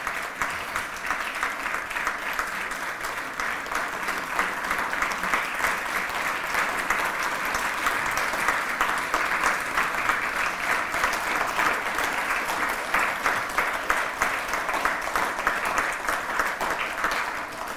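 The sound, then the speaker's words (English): Sustained audience applause, a dense, steady patter of many hands clapping at an even loudness for the whole stretch, with no voices breaking through. “we're not applauding just you, but because of the service by which you proved yourself, we're praising God.”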